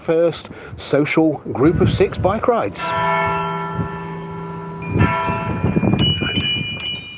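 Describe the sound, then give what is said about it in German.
Loud bell strikes ring out after a few seconds of talking on a village square, where friends with bicycles wait for the bell before a bike tour; each tone hums and slowly fades, a second strike follows, with voices continuing faintly underneath. “Wir warten jetzt darauf, dass die Glocke läutet und dann geht es los zur ersten 6-Leute-Fahrradtour.”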